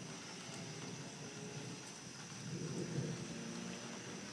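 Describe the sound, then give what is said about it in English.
A low, distant rumble of thunder from thunderstorm cells to the south, heard outdoors, swells and fades over a steady hiss of rain, faint and far off with no voices present. “Sounds like we have a couple of cells, thunder cells, south of here.”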